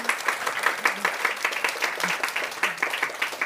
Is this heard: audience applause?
yes